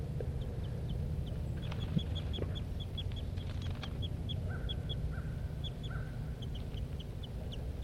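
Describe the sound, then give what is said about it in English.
Two birds, a male and a female, call near their nest in a quick, steady series of sharp high chips, broken by a few longer, lower whistled notes, all over a constant low rumble of background noise. “Both birds near the nest.”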